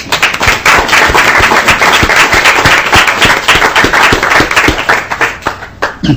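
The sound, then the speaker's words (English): Steady applause from a group welcoming ninth grade students from Southwest Junior High School in Forest Lake: dense overlapping claps filling about six seconds at a loud, even level with no voices, tapering slightly near the end. “And if the ones who have just come in could stand, we'll give you a welcome.”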